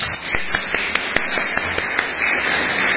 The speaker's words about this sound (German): Kann man auch mal klatschen, ne?